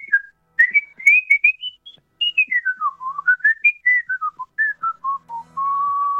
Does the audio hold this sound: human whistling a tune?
yes